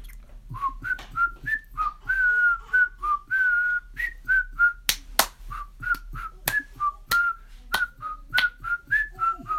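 An origami teacher whistles a bouncy, cheerful melody while walking along a hallway, short notes hopping up and down, with sharp finger snaps keeping a steady beat throughout.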